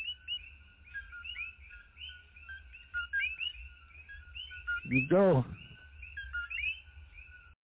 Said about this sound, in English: That's the tree frog, Bokoki. It lives in Borinquen only. They try to breed it up in the different islands, but it did not work. They die when they leave Puerto Rico, Borinquen, which is the indigenous name.